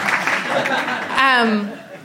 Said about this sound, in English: Big round applause for that guy.